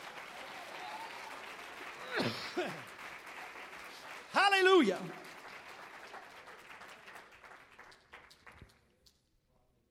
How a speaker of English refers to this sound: If you're happy for that, clap your hands to the Lord today.